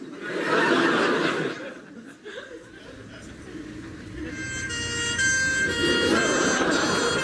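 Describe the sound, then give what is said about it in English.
An ambulance siren suddenly rises close by, loud and wailing, cutting through a noisy jumble of voices and street sound that came just before it. “Every aspect of my life is in ruins, but with a haircut like this, at least I know it can only possibly get worse if I'm run over by an ambulance.”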